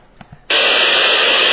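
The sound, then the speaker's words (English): After half a second of near-quiet with a couple of faint clicks, a loud, steady white-noise test signal from an acoustic analyzer switches on abruptly and hisses evenly to the end, with no talking. The signal is played to measure the decay of sound. “Anything I think is white noise.”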